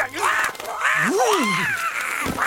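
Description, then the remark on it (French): Loud squawking from Astrid, a bird, as she is being caught: several harsh, rising and falling cries in quick succession, agitated and raspy. “Astrid, vilain oiseau.”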